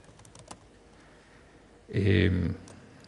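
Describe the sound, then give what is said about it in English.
A few soft, quick clicks on a computer keyboard while writing code tap out in the first half second, followed by a short, louder burst of voice-like sound that lasts about half a second before fading back to quiet. “My keyboard, my fingers.”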